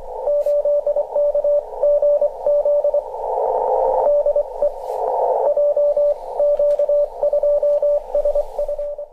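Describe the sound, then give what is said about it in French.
A Morse code reply from a radio amateur's correspondent received over the radio: a steady high beep keyed in quick dots and dashes, fairly loud, riding on a band of crackly static with no voices. “Voici un radioamateur que l'on entend transmettre en morse dans son local, et par la suite on va entendre la réponse de son correspondant.”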